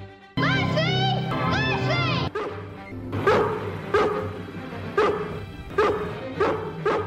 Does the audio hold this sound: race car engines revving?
no